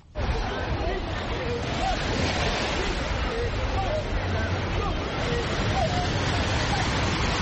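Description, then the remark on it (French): Steady, rushing surf fills the scene from start to finish, with the indistinct chatter of many people mingling in the background of a busy beach: Angor beach in Senegal on a Saturday morning, with more than fifty people in the water wearing vests and buoys. “À la plage d'Angor, samedi matin, ils sont plus d'une cinquantaine dans l'eau, munis d'un gilet et d'une bouée.”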